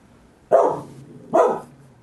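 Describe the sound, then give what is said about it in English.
A dog barks twice in a steady rhythm, each bark sharp-onset and fairly loud, with a short quiet gap between them and no talking. “And it was a cute little pooch.”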